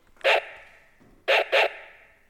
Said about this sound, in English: What do you think? That's a pretty good dog sound, isn't it?